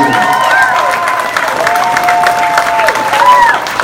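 A crowd claps and cheers steadily, a dense wash of applause with high whistles and shouts rising and falling over it throughout.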